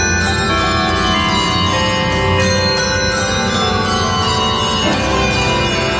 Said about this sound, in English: Sounds like a wedding. Oh. Ring those Christmas bells.